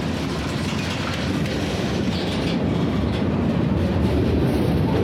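A train rolls steadily along the rails, a continuous low rumble with a faint rhythmic clatter of wheels underneath, holding loud and even throughout with no voices.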